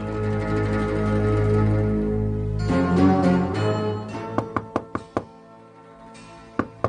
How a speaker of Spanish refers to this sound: Varias horas después, Ananías estaba tocando la puerta en la casa de Judas.